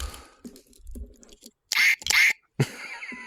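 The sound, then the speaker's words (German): A squeaky toy duck gives two quick, shrill, loud squeaks in a row, after some soft handling and rustling noises, with a further scuffle right after. “Ich habe noch eine Ente, warte.”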